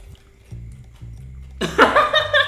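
Wet chewing of crushed bird's eye chili: a few low muffled thumps, then louder squelching mouth sounds that keep going to the end.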